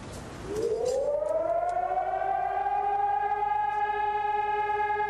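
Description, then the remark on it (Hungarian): Civil defense sirens wail at noon in Prague as the nation holds a minute of silent mourning and Václav Havel's funeral begins. They rise from a low growl into a long, steady, loud tone with a layered harmonic drone that holds without break; no one speaks. “Egy nemzet dermet egy perc néma gyászba délben, a torkokat sírás folytogatta, megszólaltak a szirénák, a harangokat félreverték, elkezdődött Václav Havel temetése.”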